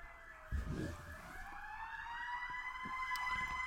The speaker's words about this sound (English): Hold on, there's a ambulance.